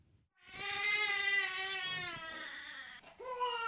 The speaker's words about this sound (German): Das Baby, das hier weint, ist 3 Monate alt. Die Mutter ist gerade mal 13 Jahre älter.